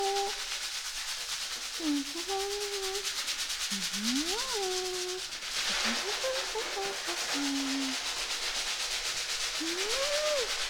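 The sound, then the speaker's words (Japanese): Steady, dense scratchy rubbing of shampoo being lathered into a foam on a scalp, massaging the scalp, with occasional squeaky gliding tones rising and falling over the continuous wet friction. “いい感じに泡立ってきましたね。”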